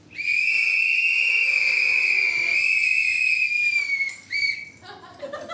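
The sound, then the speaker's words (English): A loud, sustained high-pitched whistle holds steady for about four seconds, then breaks into shorter whistles and scattered crowd noise as an audience whistles together to answer yes to having used a sex toy. “So please whistle if you have ever used a sex toy.”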